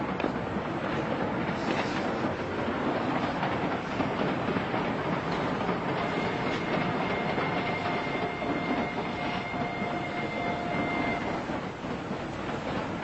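A train rolls steadily along the rails with a dense, continuous rumble and rattle. A faint high whine rises partway through, with no voices present.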